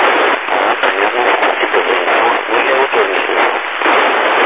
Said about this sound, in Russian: Вот не слышу тебя, МС, у него там помеха больше 9 баллов. Ну, в городе живет, в центре, около радиочастотного центра.